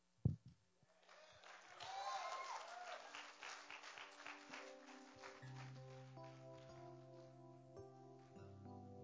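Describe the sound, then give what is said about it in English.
An audience gives a female speaker another round of sustained, dense applause that gradually thins, while steady keyboard or organ chords rise underneath and continue to the end. “Come on, let's give her another round of applause.”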